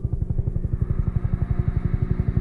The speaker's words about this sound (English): She says that she gets this awful feeling like she's about to fall off a cliff. She says, as soon as I hear helicopters, I fall back into that nightmare.